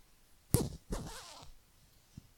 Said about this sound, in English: You want me to undress? Okay, I do it. You help me with the zipper?